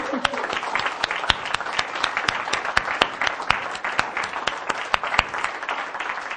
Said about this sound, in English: So I want to give him a round of applause.